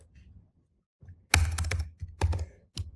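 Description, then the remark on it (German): Clattering keystrokes on a computer keyboard, entering 400 Hertz into the passband field of a filter design tool, come in two quick bursts with brief pauses between them, followed by a single last tap; no one speaks. “Wenn ich tippen könnte, würde da auch 400 Hertz stehen.”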